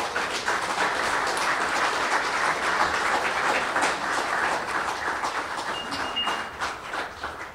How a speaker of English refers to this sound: At this time, a nice round of applause for the man doing the invocation, Reverend Wayne Jagow.